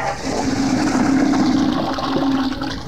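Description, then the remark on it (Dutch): A toilet flushes in the men's restroom at the Koperen Knoop in one continuous rushing surge of water with a steady low gurgling hum underneath, loud and unbroken for about three seconds, then easing slightly at the end. “Ja, dit was een opname vanuit de WC in de Koperen Knoop. We staan hier in de Heren WC en deze is een verzoekplaatje voor Van Tijn.”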